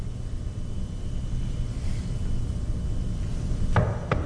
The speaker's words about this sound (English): There comes the knock on the door.